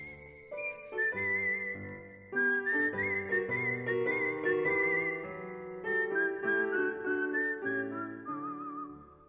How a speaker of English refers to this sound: To our knowledge, no whistlers are up for a Grammy tonight, so we thought we would bring you a whistling virtuoso.